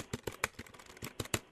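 typing on a keyboard

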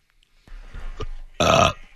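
burp

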